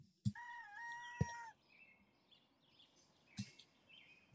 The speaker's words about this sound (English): Starts with some bird noises.